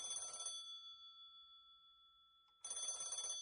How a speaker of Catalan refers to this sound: Clara despenja el telèfon i Solange li vol agafar l'auricular, però l'aparta.